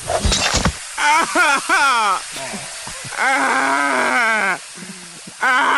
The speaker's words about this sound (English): Is that little thump there, the finger hitting the pavement? Yeah, it's him pulling out the knife, slashing the tire, accidentally cutting his finger off, and then going, ow!